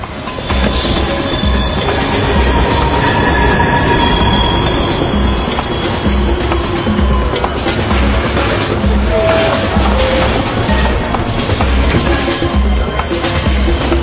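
A train rumbles loudly along the rails as it passes, with steady clattering wheels and a thin metallic squeal running over the roar for the whole stretch.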